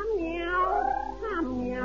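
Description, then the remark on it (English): A cat meows in long, wavering, drawn-out cries, one sliding call running into another, loud with no talking over it. “They tell me that you really are the cat. Meow.”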